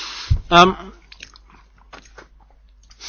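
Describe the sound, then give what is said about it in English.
Chewing a crust of cream: a soft thud and a brief hummed vocal noise at the start, followed by faint, irregular crunchy mouth sounds for a few seconds. “I'm munching a crust of cream now, again, because I'm absolutely famished.”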